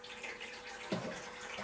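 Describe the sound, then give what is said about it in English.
A tap runs steadily, a broad hiss of flowing water, with a brief gurgling swirl partway through as the stream shifts, as water is run to make jelly. “Are you washing up, Mum? No, I'm just getting cleaning this. Right, so let's put the water in then.”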